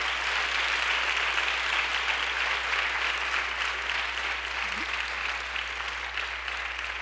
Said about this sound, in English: I want to give these ladies a round of applause. They did amazing.